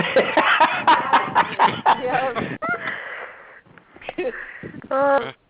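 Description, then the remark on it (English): A man imitates a dog, letting out a rapid run of loud barking yelps, then a few strained whines and a final drawn-out howl-like cry. “So now the guy is barking.”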